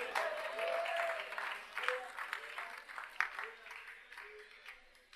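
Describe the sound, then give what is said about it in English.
An audience claps in a dense, steady burst of applause lasting about five seconds, with scattered voices calling out through it, thinning slightly toward the end. “I don't want you to clap it.”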